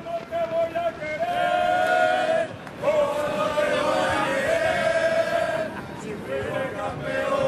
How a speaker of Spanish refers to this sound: hay muchas ganas, la atmósfera de fútbol es sensacional en la capital de España y por supuesto en el Paseo de la Castellana. Así suena la afición madridista en directo en Onda Madrid, en la puerta cero del estadio Santiago Bernabéu.